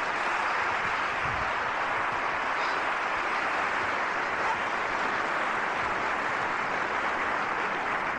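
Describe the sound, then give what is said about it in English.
An audience at a show in Berlin applauds steadily for the trio's pianist, Johnny Veith, as he is introduced, a dense wash of many hands clapping that holds at an even, full level for about eight seconds without fading or breaking. “So how about a nice big round of applause for Johnny Veith on piano.”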